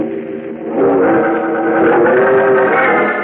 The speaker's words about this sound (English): Just as Bruce Wayne's powerful Batmobile comes racing down the street, its powerful headlights pouring twin tunnels of light through the